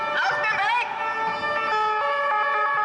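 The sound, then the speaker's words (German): A two-tone police siren (Martinshorn) blares loud, switching back and forth between a high and a low pitch in a steady alternating pattern, with a brief wavering sweep at the start. “Jetzt darf allerdings ein Polizist nicht einfach das Martinshorn einschalten, um seine Tochter im Eiltempo in die Schule zu fahren oder um noch mal schnell nach Hause zu rasen, weil er seine Zähne putzen muss.”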